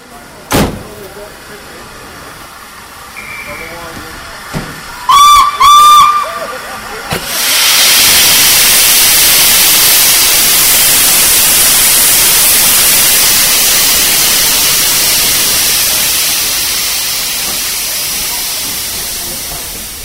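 A steam train whistle gives two short blasts after a few sharp knocks. Then a loud, steady rush of escaping steam and rolling noise follows as the train, with three teak-finished LNER-design carriages, pulls away from Bowness station past two restored Caledonian Railway coaches, slowly fading.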